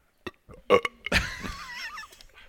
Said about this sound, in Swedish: Sitter och rapar och fiser.